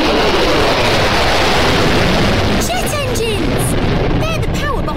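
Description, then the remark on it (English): A loud, continuous roar of jet planes flying overhead, with high engine whines sweeping and falling in pitch as the aircraft pass by. “Planes in the sky.”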